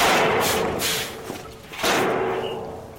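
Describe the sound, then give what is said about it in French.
The heavy rear door of a truck trailer that has arrived at a circus thuds and rattles open as Monsieur Loyal releases the new animal, with a few loud, dull impacts and scraping metal noise spread over a few seconds. No one speaks. “Monsieur Loyal s'approcha de la porte arrière pour libérer le nouveau.”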